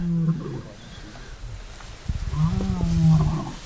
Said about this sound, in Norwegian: Jeg ligger i et telt i Torshov Nasjonalpark midt på natta, og det hører noen der løvebrøl. Det føles ut som en utenfor teltet vårt, men jeg håper ikke det er det, altså.